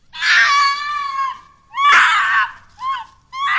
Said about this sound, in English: It has been reported to move quickly, and it's often described as emitting a high-pitched, blood-curdling scream.